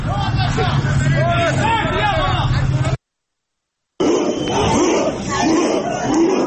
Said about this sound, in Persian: صدای تعدادی از مکانهایی رو که درش تجمع و اعتراض بوده رو شنیدیم